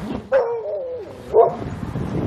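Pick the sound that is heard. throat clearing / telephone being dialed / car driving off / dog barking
dog barking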